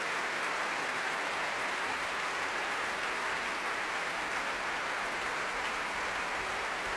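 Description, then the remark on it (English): Sustained applause from a large concert audience at the Proms for Canadian pianist Jan Leshetsky at the end of his Proms debut with the orchestra of the Academy of Santa Cecilia in Rome, a dense, steady wash of clapping that holds at an even level for several seconds, with no voices on top. “The orchestra of the Academy of Santa Cecilia in Rome, and standing in front of them, receiving well-deserved applause at the end of his proms debut, Jan Leshetsky from Canada.”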